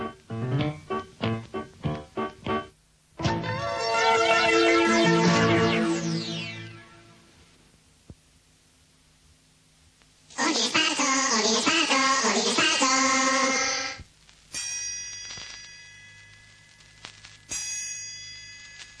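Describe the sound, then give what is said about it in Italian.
Two loud gong strikes several seconds apart, marking the start of the second half of the radio programme Ordine Sparso, each ringing out in a long, shimmering decay, preceded by a brief run of quick rhythmic taps and followed by fainter metallic tones. “Due colpi di gong segneranno l'inizio del secondo tempo.”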